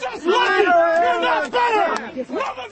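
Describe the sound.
A protest crowd in Oracle, Arizona, gathered to block the arrival of a bus carrying a few dozen children, shouting loudly together, several raised voices overlapping in strained, high-pitched yells that surge in bursts with brief dips between them.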